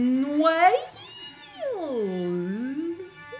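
Whale song vocalizations: a short rising moan followed by a long, smooth call that dips low and climbs back up, harmonic, with no talking.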